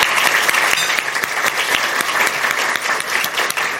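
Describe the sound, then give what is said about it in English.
A crowd applauds steadily, a dense wash of many hands clapping at a loud, even level with no voices standing out, lasting the whole few seconds. “So I want to say thank you for that, Commissioner, and offer my thanks and just a round of applause.”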